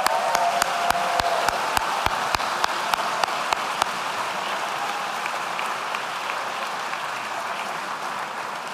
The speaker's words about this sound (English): Please join me in a round of applause for our doctoral degree candidates.